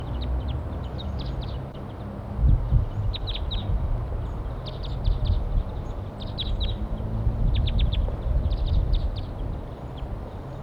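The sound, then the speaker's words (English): Wild birds calling from a perch, in short bursts of high, thin chirps that repeat every second or so over a steady low rumble of background noise. “Wild birds calling from a perch.”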